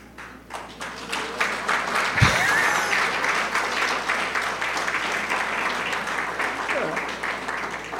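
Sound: audience applause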